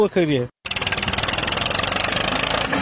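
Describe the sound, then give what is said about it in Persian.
A brief voice is followed by a tractor engine running loud, with a steady, rapid chugging pulse that continues without a break to the end, as the Taliban use a tractor to destroy a poppy field in Gereshk district, Helmand. “اینجا در ولسوالی گرشک هلمند در یک ویدیو دیده می شود که طالبان با استفاده از تراکتور و موتر رنجر یک مزرعه کوکنار را تخریب می کند.”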